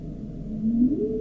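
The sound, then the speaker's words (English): A humpback whale call underwater, a single low tonal moan that slowly rises in pitch, heard at moderate level over a dull, rumbling ocean background with no voices; recreated from a couple of hours of whale survey recordings. “Those are the humpbacks.”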